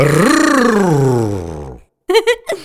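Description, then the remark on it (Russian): A person imitates an animal growling with one long, loud, rumbling roar that swells and slowly falls away, followed after a short pause by a couple of brief voiced sounds. “«Надо рычать». «Я рычу».”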